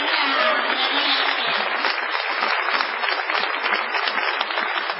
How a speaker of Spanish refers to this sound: No menos afectada ha de ser la ovación tributada ….